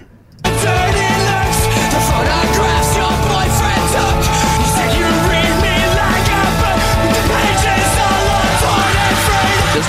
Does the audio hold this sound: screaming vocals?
yes